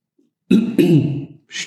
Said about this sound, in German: Ich wollte die ganze Zeit schon räuspern. Jetzt ja. Konnte ich endlich die Gelegenheit nutzen.